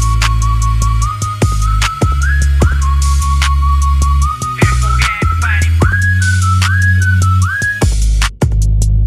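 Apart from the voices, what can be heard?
whistling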